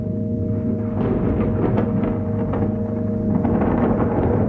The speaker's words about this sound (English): Far above you, a faint light flickers. Listen. Do you hear the dull echo of thunder?